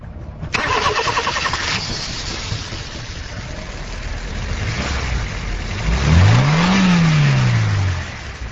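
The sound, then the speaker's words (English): A car engine cranks over with a starter whir, catches and settles into a steady running rumble, then revs up and back down near the end, as young women mechanics tune cars at an open-air garage in Lagos, Nigeria. No one speaks. “In an open-air garage in Nigeria's commercial capital, Lagos, young women in canary yellow overalls are tuning cars and overturning convention as they train to become mechanics.”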